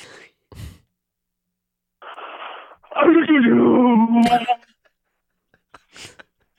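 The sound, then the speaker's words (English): A caller from Nashville, Tennessee imitates a sneeze in the style of Beethoven: a breathy intake, then a drawn-out, wavering sung tone that ends in a sharp, explosive burst, with a few short breaths before and after. “Okay, a sneeze in the style of Beethoven.”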